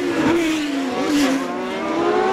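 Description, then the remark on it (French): A Formula 1 race car engine screams loudly, a high-pitched continuous whine whose pitch dips and climbs again as it shifts, with no voices. “Ce bruit de moteur de F1 pour commencer cet entretien, c'est celui qu'on va entendre à partir de demain sur le circuit du Castellet dans le Var.”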